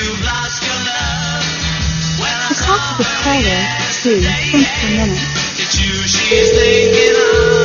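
Near the end, a steady, loud electronic telephone ringing tone comes in on the line as a call is placed to call a man back, following a stretch of busy, voice-like background sound.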